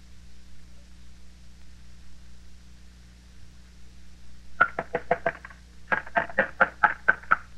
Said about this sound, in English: It will be your duty to get him to quiet down. Keep him from pounding on this door.